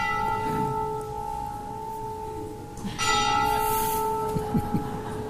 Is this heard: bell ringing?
yes